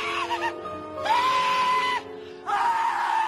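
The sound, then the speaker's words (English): Crispin Glover, as the Thin Man in Charlie's Angels, lets out three loud, high-pitched screams, a short one followed by two longer, strained wails with brief pauses between them, sounding shrill. “She dated Crispin Glover, who played the thin man in Charlie's Angels that God, would scream when he pulled your hair out.”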